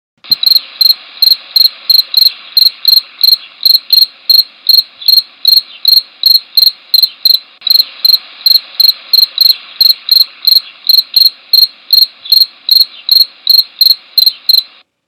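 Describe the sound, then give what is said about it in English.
A field cricket, a common insect, chirps steadily, its high, bright pulses repeating in an even rhythm for the whole stretch with no other sounds or voices. “This week's creature call is the sound of a common insect that can be found here in Vermont and across the United States. It's a field cricket.”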